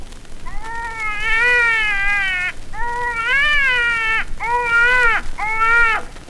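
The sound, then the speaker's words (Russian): A baby crying loudly in four long wailing bursts, the high-pitched voice rising and falling within each cry, with short breaks between them and no talking. “заткни ему рот, какого черта он орет. Соску дай ему в рот, пусть молчит.”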